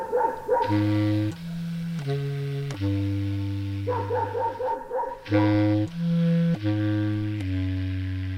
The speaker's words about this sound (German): Und eine weitere Erkenntnis, die Oberpfälzer Hunde bellen genauso laut wie die tschechischen.